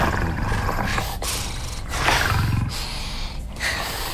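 A lion roars in loud, rumbling bursts, rising and falling over a few seconds, sustained with no talking.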